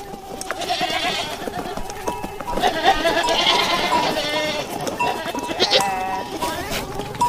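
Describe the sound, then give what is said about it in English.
Goats bleat over and over, several overlapping wavering cries, while a thin, steady buzzing of flies hums beneath them throughout; part of the soundscape of a documentary film. “This particular audio clip has flies buzzing and goats moaning, whatever goats do, and much, much more.”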